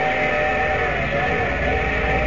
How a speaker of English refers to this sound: Yeah, that sounds like the station whistle. We'll be pulling in a minute or so.